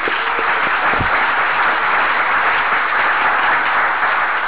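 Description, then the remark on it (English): An audience at a roundup applauding the hostess and committee steadily, a dense, even wash of many hands clapping that holds at a constant, fairly loud level for the whole stretch, with no voices over it. “We owe them a tremendous round of applause, we really do.”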